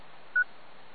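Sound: telephone keypad dialing tones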